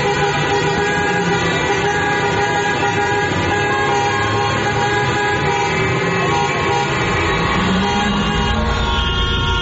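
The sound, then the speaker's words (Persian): Protesters honk many car horns continuously over a dense traffic rumble, overlapping steady blasts and shorter toots blending into a loud, unbroken wall of honking throughout. “بله، همینطور در همین رشت و اضافه بر اون در شهرهای مثل کرمان و سنندج و مشهد و محلاتی مثل صادقیه و بولوار کشاورز تهران هم معترضین با به صدا درآوردن بوق ماشیناشون به استقبال نظام مقدس رفتن تا یه وقت یادش نره که چیزی تموم نشده.”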